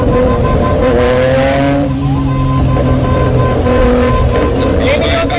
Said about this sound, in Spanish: Y procede a acelerar. ¿Qué es lo que suena si una moto ahí? Y a pitar, acelera y a pitar.